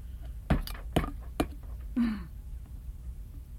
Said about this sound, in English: Tap, tap. Like that. Spoon. Yeah, that's another spoon. But you could pretend it's a hammer.